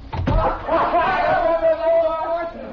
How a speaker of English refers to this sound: close the door.